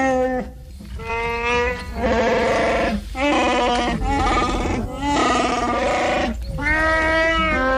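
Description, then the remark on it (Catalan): The roar of Chewbacca, the Wookiee pilot of the Millennium Falcon from Star Wars, over 2 metres tall: a string of loud, throaty, warbling howls with a bleating, groaning quality, repeated in quick bursts with short breaks, and no talking. “anem amb un alienígena, vaja, un pilot Wookie, de més de 2 metres, si vols més pistes, també amb un dels sons i un dels crits més característics de tota la galàxia.”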